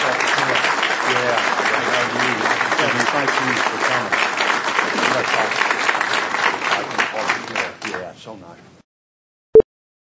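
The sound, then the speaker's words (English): A crowd at a commission meeting applauds steadily for about eight seconds as people come forward to present, a dense rush of clapping that tapers off, followed by silence and a single brief tone. “Let's give them a big round of applause for coming forward.”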